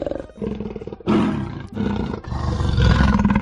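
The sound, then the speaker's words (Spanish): A big cat roars repeatedly, deep guttural bursts in quick succession, loud, rumbling low with rasping edges and no speech over it. “Hubo vecinos que aseguraban escuchar rugidos en plena noche.”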